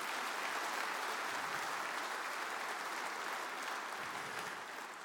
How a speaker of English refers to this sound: Come on, clap your hands if you thank God for that.